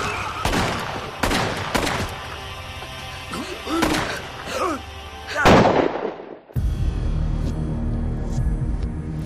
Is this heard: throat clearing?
no